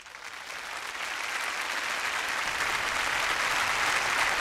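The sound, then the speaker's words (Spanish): A concert audience applauds steadily as the soloists come onto the stage and the conductor takes the podium of the Orquesta de Cámara Renacimiento, a dense wash of clapping from many hands that swells slightly and holds at a full, even level throughout, with no voices above it. “Reciben los aplausos del público, que son también para Leo Korshin, quien toma su lugar en el podio para dirigir a la Orquesta de Cámara Renacimiento en el concierto”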